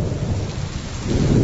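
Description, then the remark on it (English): A summer thunderstorm with steady rain pattering down and a deep, heavy rumble of thunder building loudly underneath, continuous with no voices. “A summer storm.”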